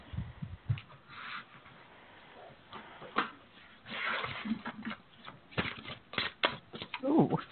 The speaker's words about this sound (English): Okay, so you can hear we're all busily shuffling.